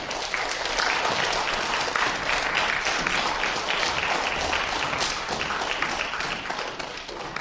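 Sustained audience applause at a concert as a singer and a pianist are invited on stage, a dense, steady wash of many hands clapping at an even loudness throughout, with no voices rising above it.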